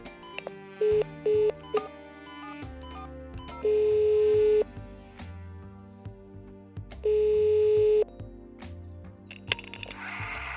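An outgoing phone call rings out on the line: two long, steady ringback tones a few seconds apart, preceded by a few short electronic beeps, over a soft busy background with no talking.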